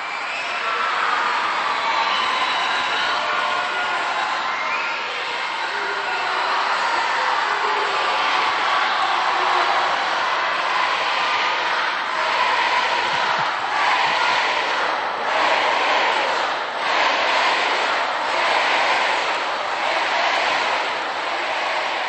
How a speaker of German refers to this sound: Der Jubel in Spanisch nimmt kein Ende, wie wir das schon gewohnt sind von den Generalaudienzen auch auf dem Petersplatz.